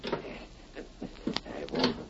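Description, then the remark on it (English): A door is eased open slowly and carefully, with a few soft latch clicks and faint creaks spread over a couple of seconds, fairly hushed. “Careful how you open that door.”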